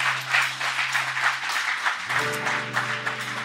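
An audience applauds the Lord at a morning church service in a steady, dense wash of clapping throughout, while sustained low keyboard or organ notes hold underneath and shift to a new chord partway through.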